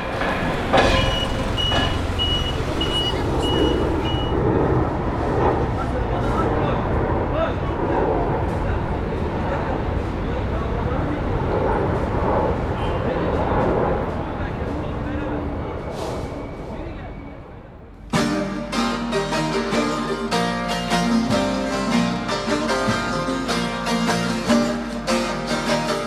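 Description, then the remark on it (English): Busy street ambience in the center of Istanbul, around a market: steady crowd chatter over a low traffic rumble with passing vehicle noise, giving way after about eighteen seconds to brighter, tonal, music-like sound. “And because this is the center of Istanbul, the market is surrounded by the sounds of the city.”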